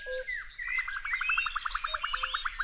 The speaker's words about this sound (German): In der Früh hört sich das richtig schön an, weil da ganz viele verschiedene Vogelarten singen. Das hört sich schön an, weil man weiß nämlich jetzt, dass der Frühling da ist.